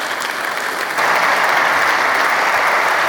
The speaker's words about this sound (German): Begrüßen Sie wirklich ihn und seine Zukunftsvisionen mit einem großen Applaus, den Vorstandsvorsitzenden Timotheus Höttges von der Telekom AG Deutschland.